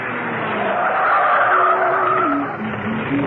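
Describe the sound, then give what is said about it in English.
A car pulls up and parks outside a home, its engine droning loudly with a brief squeal of tires as it slows and settles, heard alone without any voices. “She was in a carefree mood and hummed quite cheerfully as she parked the car outside Steed's home.”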